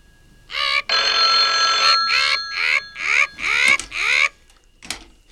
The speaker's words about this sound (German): Ach, ich Idiot! Telefon! Telefon!